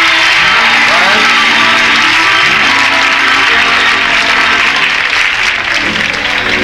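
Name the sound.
audience applause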